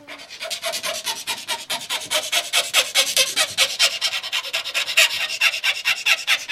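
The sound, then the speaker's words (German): A file rasps rhythmically across a wooden template in a workshop where violins, violas and cellos are made, about three strokes per second, each bright scraping pass steady and even, with no talking. “ist am Fielen von einer Schablone.”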